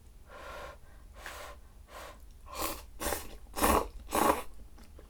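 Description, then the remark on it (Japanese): Someone chewing curry in a series of about seven soft, wet, breathy mouth noises at a steady rhythm, growing louder toward the end, with no talking. “もしかして咀嚼音が嫌いな人とかいたらごめんね。”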